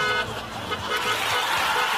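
A car horn blares in a loud, sustained honk lasting about two seconds, its bright tone sitting over a busy, rumbling background of traffic noise.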